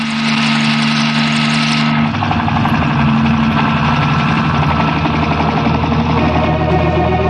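A helicopter with a pilot and two passengers flies low over the palm trees lining the beaches of the island of Escorpio, roaring loudly overhead, a dense, steady engine drone with a throbbing rotor texture that shifts slightly in tone after the first couple of seconds. No voices.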